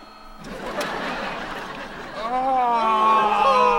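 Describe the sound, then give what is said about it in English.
A printer printing tickets whirs and rattles with a steady, noisy mechanical churn, then a voice rises over it, vocalizing loudly in drawn-out, wavering tones as the printing continues underneath. “We're printing the last ticket.”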